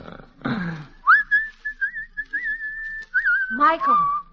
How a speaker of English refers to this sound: Don't seem to me you're looking very hard, hanging right on the front gate and whistling on the Sabbath.